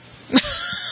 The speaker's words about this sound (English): I sneezed. Bless you. Gesundheit.